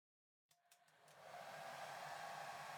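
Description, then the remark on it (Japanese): A hair dryer switches on after half a second of silence, a few clicks and sputters as it starts, then settles into a steady, loud whooshing roar of blowing warm air as it dries a customer's hair. “私はこっちから温風を当てていくね。”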